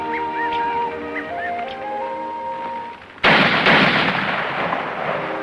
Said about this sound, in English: As the girl rushes toward the sound of the gunshots, the boys find the pup lying on his side.